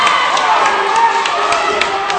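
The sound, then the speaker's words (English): The Laurel crowd at a wrestling match cheers steadily, a dense wash of shouting voices with occasional sharper yells and claps rising above the roar, loud throughout. “Your action you're hearing is from the Laurel crowd.”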